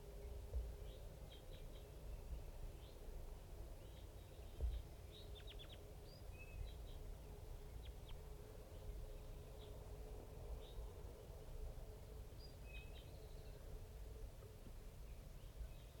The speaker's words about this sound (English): There's about 5 crossbills and a little flock of big guys just around here somewhere.